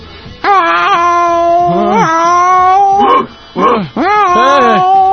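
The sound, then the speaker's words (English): A person loudly imitates a dog, letting out a string of drawn-out, wavering howls and yowls, with pitch rising and falling and short breaks between them. “Woof, woof.”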